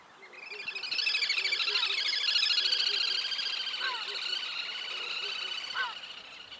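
A little grebe's shrill, rolled whinnying trill, given in the breeding season, runs almost continuously for several seconds, rapid and piercing, rising and falling slightly, against a faint background of other chirps.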